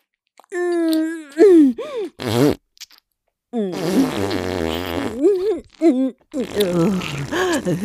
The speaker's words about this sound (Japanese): くっさいおなら連発。ほーら、まだまだ出るわよ。お尻に力入れて。